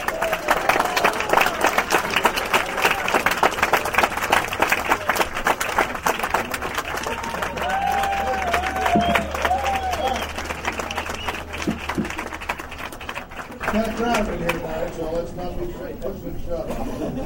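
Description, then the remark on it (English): A large, packed crowd at a Cincinnati Reds caravan event applauds loudly and steadily as former Reds pitcher Todd Brown is introduced, dense clapping with scattered cheers; near the end the applause thins slightly as a voice begins speaking over it. “This is the biggest crowd we've seen on the caravan.”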